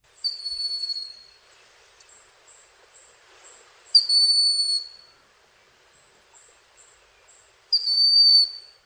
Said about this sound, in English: So again, that's a broad-winged hawk.